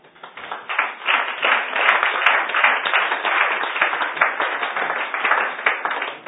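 Sustained applause from an audience at the Kepler-Salon at the end of a discussion event, a dense wash of many hands clapping at steady volume for several seconds, with no speech over it.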